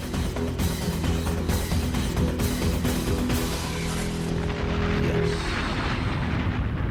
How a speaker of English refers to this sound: Lovely explosion this morning.